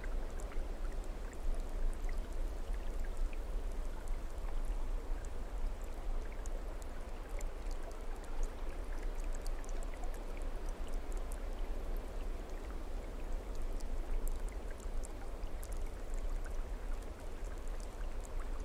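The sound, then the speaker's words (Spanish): Steady rushing water falls with force down a mountain without pause, a dense, even hiss with a low rumble underneath and scattered bright splashes. No voices are heard. “Muy poco a poco dejas que el agua que cae con fuerza pura de esa montaña comience a limpiarte.”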